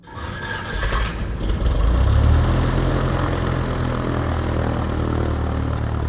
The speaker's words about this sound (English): A four-engine turboprop plane took off from Lakeland, Florida, heading southwest over the Gulf of Mexico. The plane was a modified Lockheed Orion, call sign Kermit.